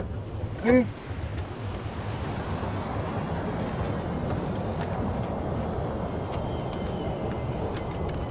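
Steady low engine and road rumble from inside a moving car, continuous and even throughout, with a brief tonal sound near the start.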